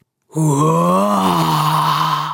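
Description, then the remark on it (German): A voice lets out a long, loud growling roar as the darkness in a cave in a story read aloud, one sustained low moan-like tone lasting about two seconds with a slight lift in pitch partway through, no words. “Brüllt die Dunkelheit.”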